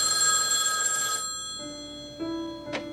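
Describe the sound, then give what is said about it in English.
A telephone bell in a phone-call scene of the film When Harry Met Sally rings loudly, one bright metallic burst that cuts off after about a second, leaving quieter sustained tones and a soft click near the end. No voices. “Like there's a sequence of scenes in When Harry Met Sally where they're just getting along and they're just talking on the phone.”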